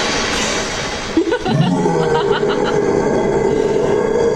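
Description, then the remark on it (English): The bus from the film Totoro approaching with a loud, steady engine roar and a brief rising whine partway through, continuous throughout. “Here comes the bus.”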